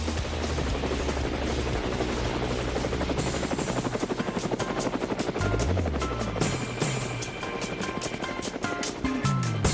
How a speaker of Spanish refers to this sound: Bueno, amigos de Cuba, las aspas del helicóptero nos indican que ha llegado un momento siempre esperado